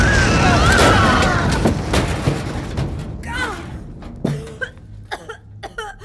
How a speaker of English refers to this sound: Is everyone okay? Holy shareholders, what was that? Ah, looks like resources rigged the door to explode.